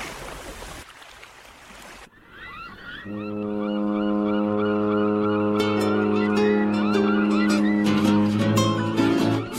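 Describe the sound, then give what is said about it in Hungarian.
A deep, sustained ship's horn blares loudly and steadily for several seconds from an approaching ship, following a stretch of rushing sea noise, with higher wavering tones layered over the long low blast. “Már közeledik a hajó, halljátok ti is a tenger zúgását, s a hajó kürtjét.”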